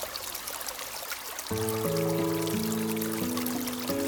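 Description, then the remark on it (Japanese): A small, cool stream babbles steadily throughout in an autumn forest, a continuous watery rush. About a third of the way in, soft sustained musical chords enter and play over the flowing water. “秋、涼やかな小川のせせらぎに誘われて森の中へと足を踏み入れた。”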